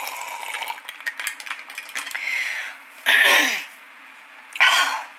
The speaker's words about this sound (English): Emphysema cough. I never should have quit smoking. It probably would have healed it.